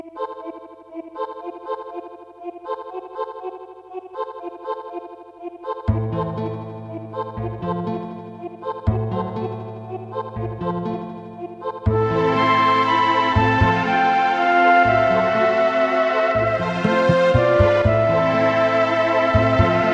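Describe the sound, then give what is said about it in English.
Video game cave background music: a lone echoing synth melody builds as a bass line enters, then fuller chiming layers swell in, all instrumental with no voices. “And the South Figaro cave music is just a beautiful, beautiful piece.”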